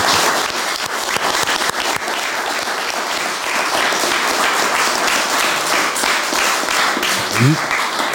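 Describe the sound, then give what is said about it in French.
A studio audience on a television set applauds a guest, the general director of Domo France, steadily: a dense, even wash of many hands clapping that holds at a constant loud level for about eight seconds, with a brief rising whistle-like tone near the end. “Applaudissements pour ce.”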